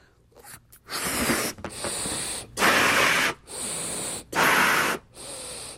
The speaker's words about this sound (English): This is an old Tech TV balloon, just as your standard balloon. And then you blow it up.